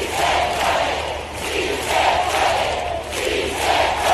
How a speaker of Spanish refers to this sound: En su reaparición, Pablo Iglesias ha sido aclamado entre gritos de «Sí se puede», un mitin